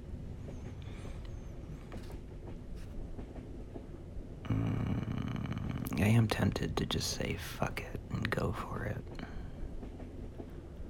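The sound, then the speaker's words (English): A low, steady rumble of a train carriage rolling along the rails fills the background, growing louder and busier midway, while a voice speaks softly. “With a train like this, who knows when we'll get home?”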